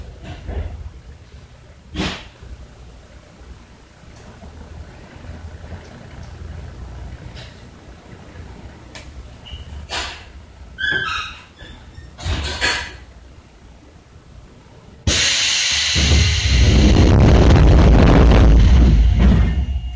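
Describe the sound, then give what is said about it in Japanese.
A train pulling away from a station: a low steady rumble broken by a few clunks and knocks, then an abrupt, loud, sustained roar with a hissing, whining edge for the final seconds. “で、すぐまあちょっと時間がなかったので、はい、折り返しで、すぐ帰ってきちゃったんですけども、はい、そのまた出発する時のですね、録音もちょっとしてきましたので、はい、ちょっと聞いていただこうと思います。”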